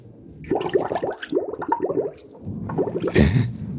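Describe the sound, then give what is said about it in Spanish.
Muffled gurgling and bubbling as sea water pours into a closed trunk, coming in uneven bursts with a louder surge of rushing water near the end. “Pero el interior del cerrado baúl ha ido llenándose de agua y la frescura, lo mismo que el cambio de presión, hacen reaccionar a Calimán.”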